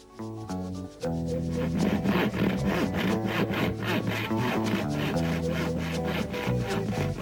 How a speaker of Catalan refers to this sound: Porteu una serra. De la bola en farem tres trossos, un per cada un de vosaltres.